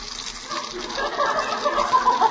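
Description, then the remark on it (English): Water squirts out of a gas stove under pressure, a steady hissing spray continuous for a couple of seconds, moderately loud with a slightly fluctuating, splashy texture. “And the gas stove's squirting water.”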